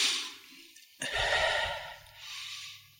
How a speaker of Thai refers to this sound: หายใจแล้วรู้สึกไปพอมันจะเคลิ้มก็หายใจให้แรงขึ้นสองสามที